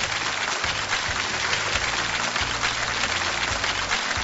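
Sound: audience applause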